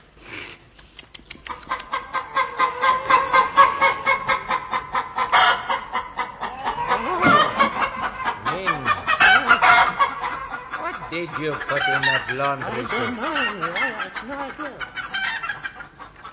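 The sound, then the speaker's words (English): The cast of The Goon Show imitate clucking brood chickens in a dense, continuous chorus of warbling cackles and squawks, loud, with a brief spoken line near the start. “Ladies and gentlemen, with the entire cast unfortunately turned into brood chickens, we are forced to close this series of The Goon Show.”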